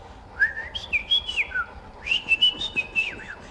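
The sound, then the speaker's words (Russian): A person practising a whistled language whistles in two quick, speech-like phrases, the pitch sliding and warbling up and down with short breaks, clear against a quiet background. “Я изучаю язык свиста.”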